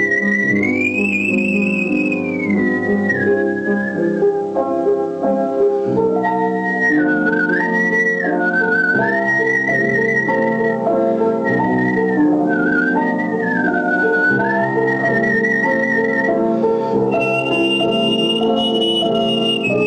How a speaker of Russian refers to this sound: И поэтому для меня это был выход моим вокальным, так сказать, пристрастием и любви к пению, вот свист под мой комплимент. Я как бы пел свистя.